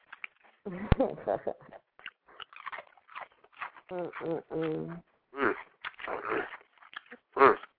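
A dog makes whiny, vocal noises in short bursts, mixed with irregular chewing and crunching sounds, with a sharp knock near the start.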